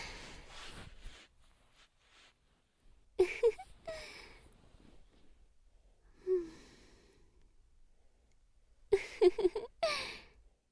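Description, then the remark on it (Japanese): Soft, close-up breaths come in several slow, airy bursts separated by quiet pauses, some with a faint voiced sigh. There is no talking. “こうしてお互いの吐息が聞こえるくらいの距離まで近づいちゃうとなんだかゾワゾワゾワゾワゾワってしちゃいません。”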